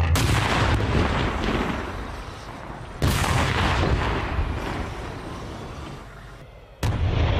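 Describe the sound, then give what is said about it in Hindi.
Heavy artillery blasts, a whistling shell piercing a tank's cupola, with three sharp, loud booms spaced a few seconds apart, each followed by a long rumbling, crackling tail. No one speaks. “तभी अचानक सीटी की आवाज करता हुआ एक गोला उनके टैंक के कपोला को भेदता हुआ निकल जाता है।”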